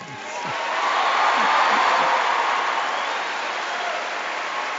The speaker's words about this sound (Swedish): Så avslutade Benedictus den 16:e söndagens Angelusbön inför den jublande folksamlingen i Castel Gandolfo, vars hjärtan han återigen fyllt med hopp och glädje.